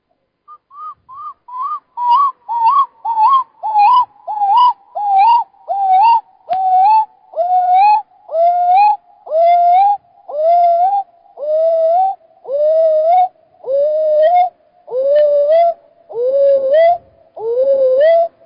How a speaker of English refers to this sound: Screech owl. Screech owls are into binaural beats. This one is doing alpha, creating alpha by doing their screech.